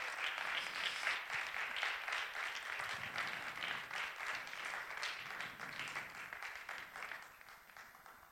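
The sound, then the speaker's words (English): A large audience gives a standing ovation for children receiving presentations: dense, continuous clapping that stays loud and steady for the whole stretch, easing off only slightly at the end, with no voices standing out. “Why don't we give them all a resounding applause?”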